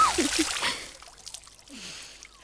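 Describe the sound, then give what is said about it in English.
Water splashes and sloshes in a lake, loudest in a bright burst at the start and then settling into softer lapping and trickling, with a few faint vocal squeaks mixed in. “The Smeds on their lake liked nothing better than splashing about, getting wetter and wetter.”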